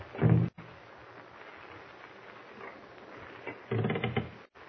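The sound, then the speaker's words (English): Someone at a door trying to open it, rattling and thumping it: a heavy low burst opens, then a stretch of quiet scraping, then another rattling burst before it stops. No voices. “Someone at the door. Shh. He's trying to open it.”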